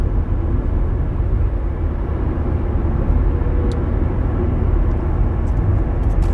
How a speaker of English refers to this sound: Here's this big bus. Next to me it says Commuter Express.